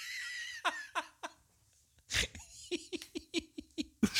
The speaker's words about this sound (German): Ja, ich muss erstmal Luft holen.